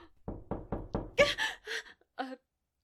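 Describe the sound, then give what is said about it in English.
Four quick, firm knocks on an office door in an even rhythm, clear, followed by a few short breathy vocal sounds like gasps. “Oh, someone's at the door.”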